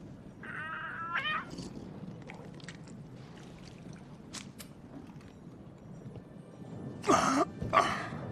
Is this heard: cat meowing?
yes